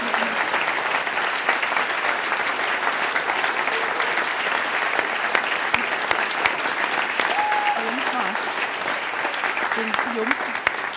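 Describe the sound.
Sustained applause from an audience for the announced winner of a contest, a dense, steady wash of clapping that holds at an even loudness for the whole stretch, with faint murmuring voices mixed in.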